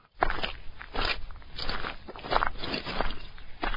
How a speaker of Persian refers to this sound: صدای چکمه‌های گشتی‌ها را شنیدند که برف و یخ را زیر پاهایشان خرد می‌کردند.